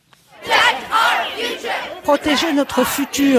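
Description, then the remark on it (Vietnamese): Several hundred young people at a climate change march in front of the White House chant the slogan "Protect our future" in loud unison, voices rising and falling in rhythmic bursts with short pauses between phrases. “Hãy bảo vệ tương lai của chúng ta, vài trăm thanh niên hô vang khẩu hiệu này trước Nhà Trắng.”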